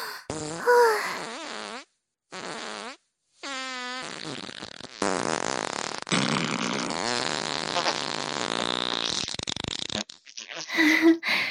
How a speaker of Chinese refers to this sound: 放了好多的屁呀、啊，房间里好臭啊！ 是啊，好臭啊！